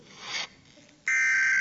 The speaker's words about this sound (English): There it is. That goes off. That's one of my ringtones. And when that goes off, most people duck and cover at the grocery store for some reason.